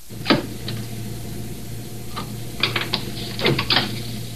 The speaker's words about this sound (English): Now he opens the gate, exposing the heads. He marks the spot for the cut. You'll hear him dropping the pencil.